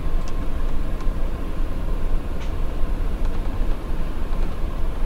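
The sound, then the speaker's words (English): Steady low rumble inside a moving train's sleeper car, room A of car 1131, continuous and fairly loud throughout, with a few faint clicks and rattles rising briefly above the drone. No one speaks. “A lot of distractions on this train.”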